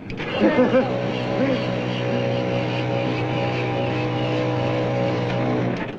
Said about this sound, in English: What are you doing? Starting the car. What for? So I can drive it.